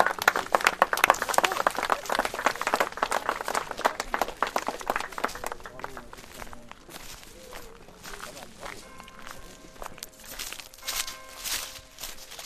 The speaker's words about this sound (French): Voilà, et moi j'aimerais qu'on applaudisse quand même tous les bénévoles qui ont travaillé sur le projet.